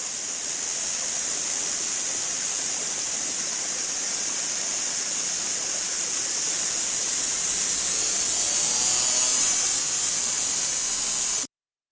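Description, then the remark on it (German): Rainforest ambience in Costa Rica: a dense, unbroken wash of hissing noise with a bright high-pitched shimmer, steady and fairly loud for about eleven seconds before cutting off abruptly. No one speaks. “Im Urwald klingt es etwa so.”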